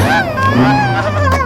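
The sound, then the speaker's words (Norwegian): A recently bought car's engine gives off an odd, whining, harmonic drone as the driver presses the accelerator, its pitch wavering and sliding for a second and a half, loud. “Jeg kjøpte jo bil her nå på fredag, og ja, så har jeg oppdaget den lyden her når jeg gasser.”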